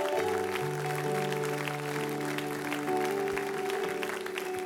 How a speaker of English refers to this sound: Can we give God just a big hand clap of praise?